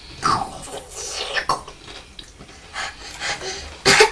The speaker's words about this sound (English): Is it so hot that it's making you cough?